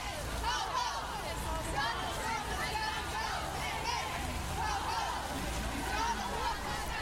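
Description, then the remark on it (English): A large protest march crowd chants and shouts together in the pouring rain on Vancouver streets, passing Trump Tower, at the second annual March on Vancouver; a dense wall of many voices holding steady and fairly loud throughout, with no single speaker standing out. “One chant rises in volume.”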